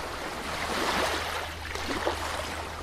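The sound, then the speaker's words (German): A continuous wash of ocean waves with soft surges swelling and receding about once a second, a broad hiss of water over a faint low rumble, with no voices. “Das Meer und was da alles so rumschwimmt, die kleinen Plastikpartikel, Vermüllung der Weltmeere”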